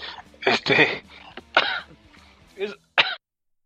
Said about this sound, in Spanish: ¿Todo bien? Así me dio tos.